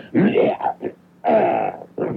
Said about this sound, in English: I try to do it with a certain amount of éclat, as we say in France, éclat. A certain amount of sensuousness and kind of a sexual quality which drives the women crazy. Between that and rattling papers. Okay, here's the way I clear my throat.